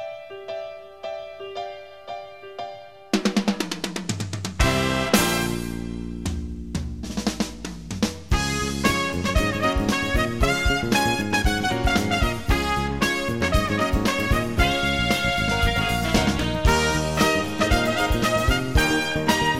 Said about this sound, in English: You know what show that theme song's from? That's a trivia question that maybe we should just leave that out there as a bonus